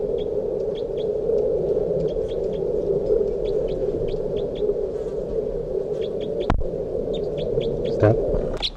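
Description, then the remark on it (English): Bird 361 gives short, high chirping calls in quick repeated bursts in response to bird 362, which was just brought out, over a steady low hum, with a sharp click partway through and no talking. “361 in response to bird 362, who I just brought out here.”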